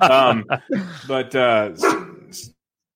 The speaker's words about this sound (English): Whoa. Sorry. All right. The dog got excited for something.